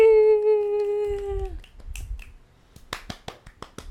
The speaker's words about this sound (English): Yay, applause sound.